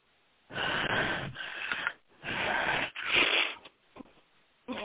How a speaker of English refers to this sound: Good. Nice breathing.